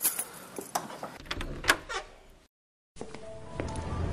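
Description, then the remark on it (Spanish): Two copy keys jangle and clink as they are left for someone, a quick metallic jumble of bright, high chimes, followed by a short pause and then softer rustling and faint handling sounds. No one speaks. “Ahí le dejo dos llaves de copia.”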